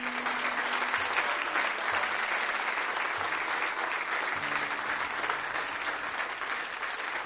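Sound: audience applause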